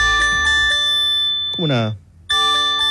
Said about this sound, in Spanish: Por eso es importante señalar, bueno, esto es para sismos. Esto es para sismos, mira, acá está. Alerta... Y acá dice, mira una demostración.